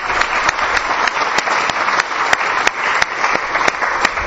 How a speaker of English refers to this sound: Yes, I'll give him a big round of applause.